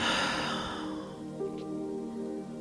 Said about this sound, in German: Wir atmen ein durch die Nase und atmen durch den Mund aus.